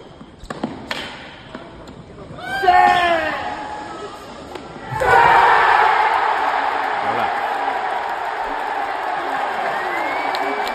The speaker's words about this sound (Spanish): Digo, ¿queréis saber cómo suenan 15.000 italianos entregados a su ídolo cuando gana el número uno del mundo? A ver, venga.